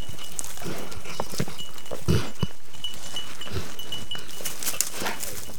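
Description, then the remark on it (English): A dog named Wheeler, wearing a little bell, lowers his head and sniffs and snorts in a run of short, breathy bursts, quick huffs mixed with a few sharper puffs, over a faint steady high-pitched ringing. “He lowers his head to sniff something, snorting a little bit.”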